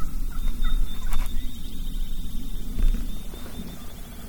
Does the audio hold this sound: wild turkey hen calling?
yes